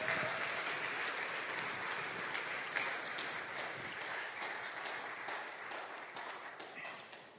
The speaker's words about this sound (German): Ich finde die Musik richtig gut, die hier passiert. Lass mal einen richtigen Applaus nochmal für die Band hier. Echt cool.